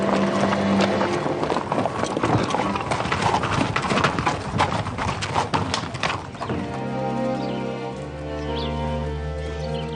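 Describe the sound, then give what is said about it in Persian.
Donkey hooves clip-clop in a quick, uneven stream of loud steps for several seconds, the donkeys' bells stuffed with grass, on a route passing the house of Amir Mofakham, then give way to a steady, low, sustained tone. “کربلای زنگوله الاغ‌ها را پر از علف می‌کرد، معلوم بود مسیر برگشت از جلوی منزل امیر مفخم است.”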